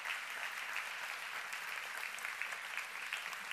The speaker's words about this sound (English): Okay, here they are. I want you guys to give these guys a round of applause for being willing to do it.